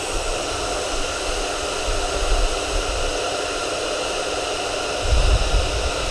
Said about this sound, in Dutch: dat je stickers die ergens aan vast blijven plakken, die krijg je er super makkelijk af als je dus de föhn gebruikt.